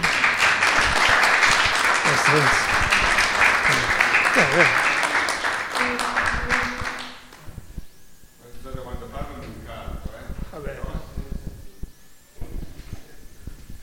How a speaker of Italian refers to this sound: Allora, innanzitutto vi ringrazio per questo applauso che mi volete fare.